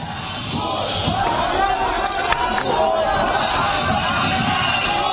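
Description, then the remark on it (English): A large crowd in Asyut, Egypt, roars and shouts continuously, hailing a man as a leader, many voices blending into a loud, sustained clamor of cheering and yelling. “though the crowd in Asyut, once a bastion of Islamic extremism, hail him as a natural leader.”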